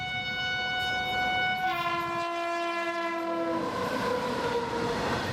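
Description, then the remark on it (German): A train sounds its horn in long, sustained blasts with shifting pitch over the steady rumble of rail cars at a railway station in Gujarat, western India, the home state of Mahatma Gandhi; loud, with no voices. “Ein Bahnhof in Gujarat im Westen Indiens, dem Heimatstaat von Mahatma Gandhi.”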